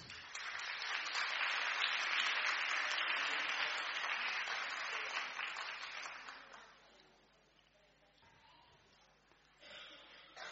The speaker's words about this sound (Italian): Gli facciamo gli applausi lo stesso.